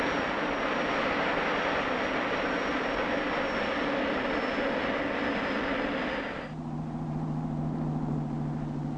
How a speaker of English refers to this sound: Its power, it's the simplest aircraft engine ever devised. Fewer moving parts, less wear and tear, easier to service. She's a mechanic's dream.